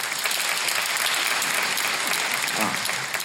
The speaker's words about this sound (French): Il y a des gens trop jeunes dans la salle pour comprendre. Par applaudissement, qui a 22 ans ou moins dans la salle?